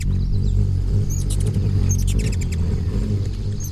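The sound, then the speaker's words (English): A ruby-throated hummingbird whizzes past in late April in the Northeast, with a loud, steady, low buzzing wing hum throughout, broken by a few short, high, squeaky chirps in the middle. “A tiny bird just whizzed by like a bullet.”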